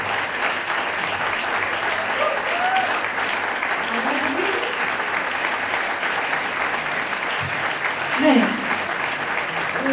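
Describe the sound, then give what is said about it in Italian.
Sustained audience applause for the orchestra fills the whole stretch, a dense, steady wash of clapping with a few faint voices and cheers rising briefly through it. “Un grandissimo applauso, un ultimo grande applauso all'orchestra.”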